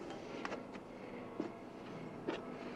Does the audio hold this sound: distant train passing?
yes